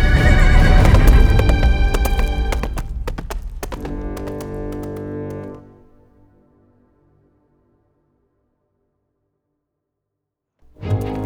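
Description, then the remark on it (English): A horse named Hannibal, borrowed from a stable, whinnies loudly while its hooves clatter and clop beneath it as it is ridden away; the sounds fade into silence, then a short burst of noise returns at the very end. “Using the thick smoke as a cover, I managed to escape back into the stable where I borrowed one of Billingsgate's horses.”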